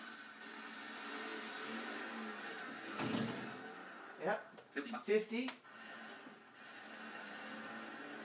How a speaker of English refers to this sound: Those cars sound old. I think they are. I think they use like Model Ts for these. I think so too.